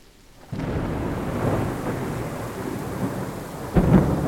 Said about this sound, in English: Yeah, so you being scared of thunderstorms is... It's totally fine.